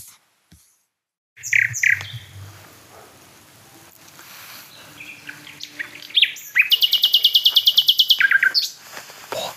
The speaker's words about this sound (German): Also wir stehen jetzt bei der Hotspot Nachtigall. Und das ist auch die von der ersten Aufnahme. Das ist die, als allererstes hier ankam. Und eigentlich am konstantesten singt. Ihr hört es, warum. Es ist einfach wunderschön.